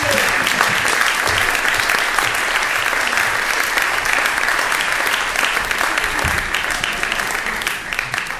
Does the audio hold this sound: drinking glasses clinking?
no